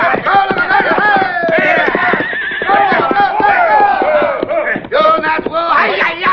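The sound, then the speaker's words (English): A horse neighs loudly while hooves pound in a fast, steady gallop, with shouting voices mixed into the continuous commotion. “Drag you off that horse.”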